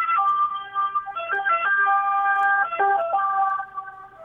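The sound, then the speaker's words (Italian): A loud two-tone ambulance siren wails steadily as the ambulance passes, its pitch stepping back and forth between notes throughout, with no talking over it. “Mi ha stupito molto, scusate, c'è un'ambulanza, credo.”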